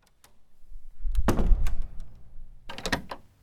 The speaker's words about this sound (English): would you lock the door, please?